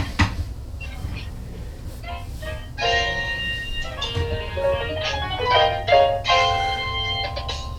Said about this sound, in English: This is like really weird. Yeah, you can hear like all the little bell thingies. Wow. Yeah. This is bad.